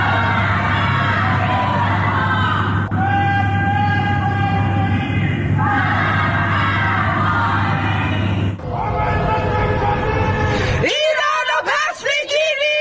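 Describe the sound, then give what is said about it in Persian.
A crowd of voices chants anti-government slogans together from their homes on a Friday evening in Iranian cities including Tehran, Mashhad, Shiraz, Malayer and Karaj, on the eve of the anniversary of Mahsa Amini's death, in loud, repeated phrases of a few seconds each, with steady background noise. Near the end it shifts to a few sharper individual shouts. “در آستانه سالگرد جان باختن مهسا امینی شامگاه جمعه مردم در برخی شهرها از جمله تهران، مشهد، شیراز، ملایر و کرج از خانه‌های خود شعارهای ضد حکومتی سر دادند.”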